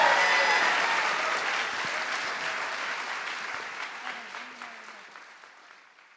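An audience applauds steadily, a dense wash of many hands clapping that gradually thins and fades out over several seconds.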